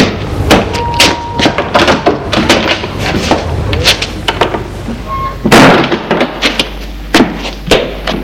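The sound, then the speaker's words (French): A heavy entrance door of an apartment building on rue des Capucins is pushed open and swung shut as people enter, with a loud bang near the middle amid a string of clacks, knocks and thuds, and a low rumble underneath. “Ils entrent dans l'immeuble.”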